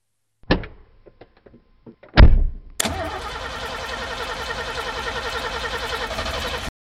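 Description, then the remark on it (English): A car door opens and shuts with a heavy thunk, then an engine cranks loudly and steadily for about four seconds without catching before abruptly stopping. No one speaks. “I rushed to my car.”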